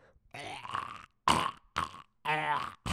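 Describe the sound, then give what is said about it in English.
A person vocally imitates a cat hacking up a hairball: four harsh, retching bursts with gurgling, throaty rasps, separated by short silences and growing more strained toward the end. “That's a kitty cat coughing up a hairball.”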